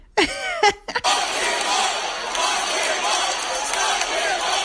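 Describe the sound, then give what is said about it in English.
A brief burst of loud shouting voices swells into the steady, dense roar of a huge stadium crowd at a World Series game chanting "Lock him up," sustained at a constant level without pauses. “That's what they're chanting.”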